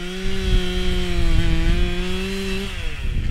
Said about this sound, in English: They're using a large jackhammer to pound stakes into a muddy stream bed and gathering sagebrush and branches to weave between the stakes.